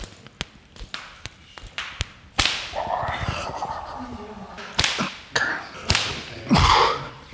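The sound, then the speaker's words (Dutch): A short whip strikes a person in a quick string of sharp, snapping lashes, about a dozen in all and fairly soft, with a brief murmur of voices between the later blows. “Deze klinkt heel erg zacht, maar hij is heel erg raar. Het is echt een heel vervelend zweepje.”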